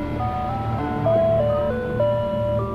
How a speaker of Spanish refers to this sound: Resulta que se oía una música de helados. Lo supieron porque una vecina dijo que esa música se escuchaba en los camiones de helados en Estados Unidos.